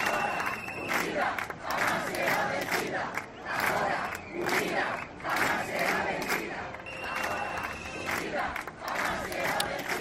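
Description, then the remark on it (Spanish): A street protest on Sunday in the Sanabria district of Zamora, Spain, over cuts to AVE train seats: a large crowd of residents shouting and chanting together in loud, rhythmic waves, voices overlapping continuously with occasional sharp whistles. “En este último lugar, el domingo, sus habitantes decidieron salir a la calle.”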